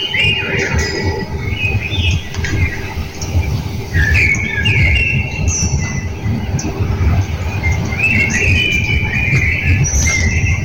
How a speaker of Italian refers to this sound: Andiamo a sentire i merli, vediamo se riusciamo a sentire i merli che cantano al mattino.